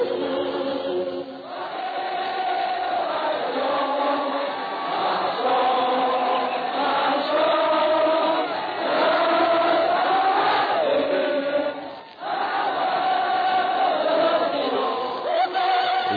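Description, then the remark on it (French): An old radio archive recording of a huge crowd of tens of thousands on the Place de l'Opéra in Paris on 11 November 1918, with Marthe Chenal singing the Marseillaise, sings together in a sustained, swelling chorus, with shouts and cheers; loud and dense throughout, with a brief dip midway. “20, 50, 30 000 personnes étaient là, chantant, criant, applaudissant.”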